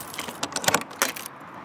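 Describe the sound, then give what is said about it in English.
Keys jangle in a quick metallic flurry, then a lock clicks as the door of a corrugated iron shed in a backyard is unlocked, with a bright rattle of a few sharp clinks before it falls quiet. “He takes out a key and unlocks the door.”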